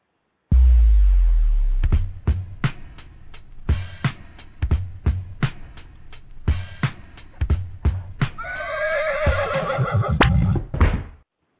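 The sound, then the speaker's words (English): A deep thud gives way to a string of sharp, irregular knocks, then a horse lets out a loud, quavering whinny near the end. No one speaks. “When you hear that sound, you know it's time for the Dead Horse Comedy Hour.”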